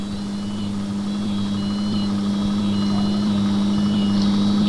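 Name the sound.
car engine running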